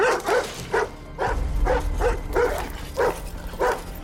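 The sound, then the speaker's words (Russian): A dog barks repeatedly at people peering through a high metal gate that blocks the path to a pond, in a steady series of sharp, fairly loud barks, with a low rumbling noise underneath for much of the time. “На них лает собака.”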